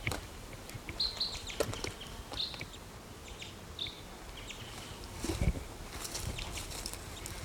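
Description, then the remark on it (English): A male crossbill, the mate of a female, gives a few short, high chirping calls from a tree, spaced irregularly over a steady hiss of outdoor background noise, with a couple of soft knocks and no talking. “Now the mate of the female is calling from this tree.”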